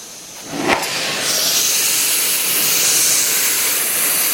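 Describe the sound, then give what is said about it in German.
A glassblowing torch flame hisses and roars steadily while a glass rod is turned in the flame and blown into to shape a wine glass, with a short sharp whoosh near the start before the broad hiss settles slightly louder and continues evenly to the end. “dreht den Glasstab mit der linken Hand und viel Gefühl in der Flamme.”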